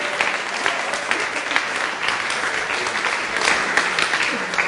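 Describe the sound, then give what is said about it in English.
An audience applauds steadily for the whole stretch as a praise offering to the Lord during a church service, a dense, even wash of many hands clapping at a fairly loud level with no single voice standing out. “Let's give the Lord a praise offering.”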